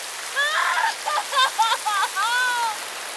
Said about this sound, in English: father stands in the middle of the camp, breathing heavily, the rain pouring down onto him.